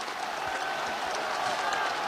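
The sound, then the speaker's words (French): A large crowd in Paris cheers and applauds General de Gaulle as he climbs the podium with his arms raised in a V: a steady, dense roar of clapping and voices that holds at an even level throughout, filling the whole space. “Il accède maintenant, les bras levés en V, selon son geste familier, devant la foule qui l'acclame.”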